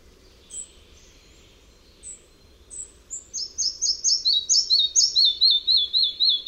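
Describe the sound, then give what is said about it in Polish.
A bird song opens with a few faint, spaced high notes, then builds into a faster series of loud, leaping whistles repeated in a steady rhythm, ending on a run of identical lower syllables. “Składa się z powolnego, ledwo słyszalnego przedśpiewu, po którym następuje szybsza seria skaczących gwizdów, zakończona opadającym ciągiem jednakowych, niskich sylab.”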